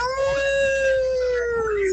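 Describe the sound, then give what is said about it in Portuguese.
A person imitates a wolf howl during the Massa FM radio show: one long, steady wail that holds its pitch throughout and then sags slightly at the end, filling the whole moment. “Bom, é um sinal, depois dessa uivada aqui, é um sinal pra gente ir embora, hein?”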